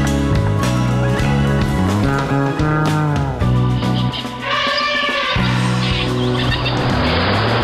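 vehicle, car traffic noise

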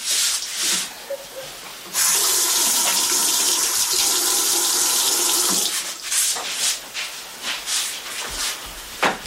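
household object, tap water running

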